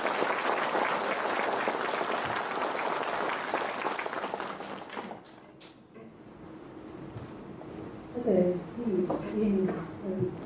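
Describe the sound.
A crowd claps steadily in a dense, sustained burst of applause for about five seconds before it thins out and fades, after which a voice starts speaking.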